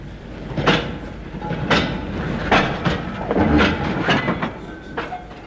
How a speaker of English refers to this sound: Well, it's only one train at this time of the evening. The 8:40 to London.